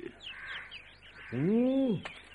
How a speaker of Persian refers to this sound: صدای جیک جیک جوجه لک لک ها از دور شنیده می شد.